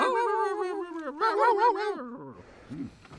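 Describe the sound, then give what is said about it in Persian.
A human voice mimics a dog, giving a long wavering howl-like call followed by a couple of short yelping barks, fairly loud with no other sounds, marking the close of a meeting. “واق واقع مزخرفتون یعنی ختم جلسه.”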